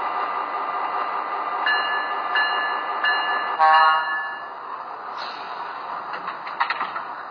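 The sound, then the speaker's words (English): Passenger train number 16, the Red Flying Yankee from Portland, rumbles steadily into Exeter station on track one, fairly loud, with several short high toots and squealing tones sounding over the rolling noise. No one speaks. “from Portland on track one, train number 16, the Red Flying Yankee.”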